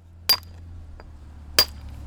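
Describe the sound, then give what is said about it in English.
Two sharp, ringing strikes of a hammer on a chisel against stone, about a second apart, over a steady low hum with no talking. A stonemason is resetting loosened stone at the front steps of a church on a sunny morning. “is already hard at work with his hammer and chisel.”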